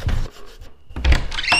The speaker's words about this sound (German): Mach die Tür vorsichtig auf.